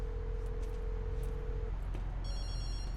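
A steady electronic tone hums for a moment and stops as a call is made in a hospital ambulance intake bay, then a phone starts ringing with a bright, high electronic trill over a low background rumble. No one speaks.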